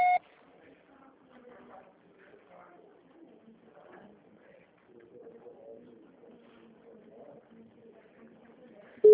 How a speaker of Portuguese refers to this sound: Sua chamada está sendo encaminhada para a caixa postal e estará sujeita à cobrança após o sinal. Deixe seu recado.